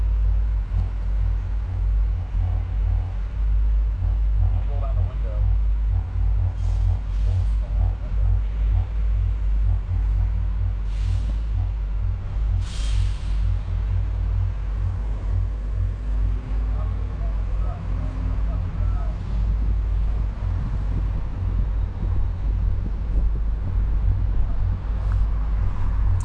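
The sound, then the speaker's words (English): A constant deep, roaring vehicle rumble with buffeting wind noise, recorded on a phone held out the open window of a moving truck; a few brief hissy bursts cut through the steady din. “We're going for a fucking ride. And you roll down the window. Hold this phone out the window.”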